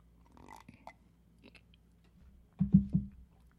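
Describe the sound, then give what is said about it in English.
Someone slurps and gulps a drink of water: faint mouth sounds first, then two or three loud, wet swallowing bursts near the end, with no talking. “Now, today's broadcast beverage slurp is”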